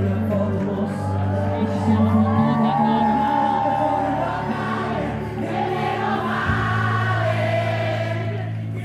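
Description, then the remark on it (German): The audience in the Ariston Theatre at the Sanremo song festival cheers and shouts in a dense, continuous roar, mixed with loud live music and steady low bass notes that shift a couple of times. “Nicht nur das Publikum im Ariston-Theater ist begeistert, auch die Menschen vor dem Fernseher.”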